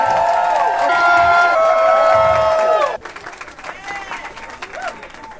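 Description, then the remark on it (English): A crowd at Sonia Sanchez's birthday celebration bursts into loud applause for her, mixed with high, sustained cheers and whoops. After about three seconds it abruptly drops to quieter, scattered clapping and murmuring. “Can you please just give Mama Sonia Sanchez a round of applause as we turn the mic?”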